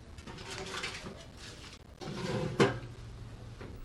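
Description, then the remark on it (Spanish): A small safe door swings shut with a single sharp clunk and a brief resonant ring, following a stretch of soft rustling and handling noise as someone kneeling takes bundles of banknotes out of the safe, with no one talking. “Coge algún fajo más y cierra la puerta de la caja fuerte.”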